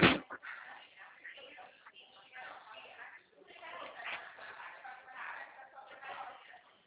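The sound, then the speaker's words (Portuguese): A single sharp knock of a door being shut right at the start, loud, followed by several seconds of muffled talking in the background. “Vou lá fechar a porta.”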